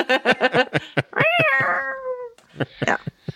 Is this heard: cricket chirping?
no